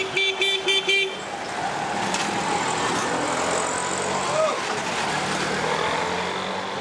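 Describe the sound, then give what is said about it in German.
A busy street with steady car traffic rumbling by, opening with a quick series of short, loud horn toots before the engines and road noise carry on. “In vielen Städten dominiert der Autoverkehr und die Umweltbelastung ist erheblich.”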